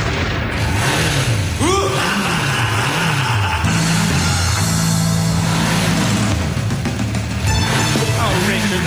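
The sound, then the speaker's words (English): A loud motorbike engine, ridden by a 66-year-old man, revs up and down several times, its pitch swelling and dropping in waves, buried in dense, rough background noise with occasional bangs. “It's a 66-year-old man on a motorbike.”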